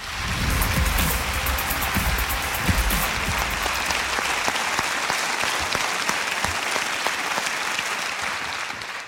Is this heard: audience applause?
yes